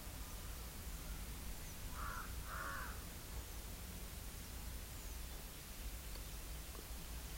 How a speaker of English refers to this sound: let the sound of crow reach you.